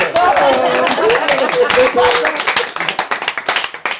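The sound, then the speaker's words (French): A crowd applauds loudly for an Italian carbonara recipe, with dense, continuous clapping that thins out toward the end into scattered individual claps, while voices call out underneath. “C'est ça qu'on fait applaudir.”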